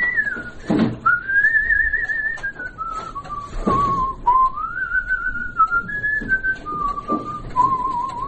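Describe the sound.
A man, a restorer and musician living in the town of Vyatka, whistles a melody for his wife, clear, the pitch gliding between sustained notes in a continuous phrase with no talking, over a faint background hiss.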